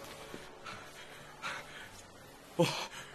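A man pants heavily, several ragged breaths in and out at an uneven pace, close by and fairly quiet, with the last gasp the loudest.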